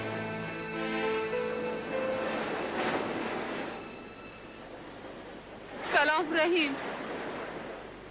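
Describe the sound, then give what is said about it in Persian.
Steady, broad roar of sea waves washing onto a beach, swelling and easing, with a low tonal hum early on and a brief voice speaking near the end. “هر وقت مادرم میخواد با پدرم حرف بزنه میره ساحل کنار دریا.”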